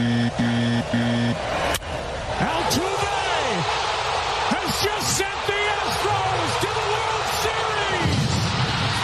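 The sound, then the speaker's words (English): A few loud, sharp metallic bangs on trash cans ring out over a steady wash of crowd noise, with brief tones at the start and indistinct voices underneath; the Astros banging on trash cans to tip off their batters while stealing signs. “They were banging on trash cans to go ahead and tip off their batters while they were stealing signs.”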